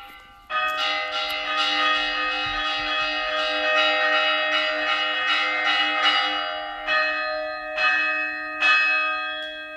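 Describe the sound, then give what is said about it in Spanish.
Church tower bells of the Church of San Juan Evangelista, also called San Juan de Puerta Nueva, in Zamora, ring a full peal, rich overlapping tones sustaining with a steady hum beneath, fresh strikes repeatedly renewing the clang throughout, loud and unbroken with no voices. “vamos desde el campanario de la iglesia”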